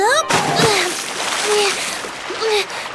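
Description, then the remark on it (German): A sudden, loud splash as someone jumps into water, followed by a few seconds of churning, sloshing water with brief vocal sounds rising over it. “Ich spring einfach ins Wasser.”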